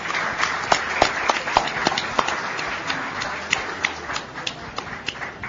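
Vigorous, rapid hand clapping from a few people, sharp overlapping claps in an uneven, continuous patter lasting several seconds with no voices.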